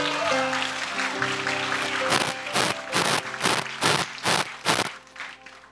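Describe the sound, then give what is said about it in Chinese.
An audience claps to welcome the speaker's daughter onto the stage to share her experience: after a couple of seconds of sustained musical tones, about eight loud, evenly spaced claps ring out in steady unison rhythm over the lingering music. “我们拍手来欢迎她好不好？”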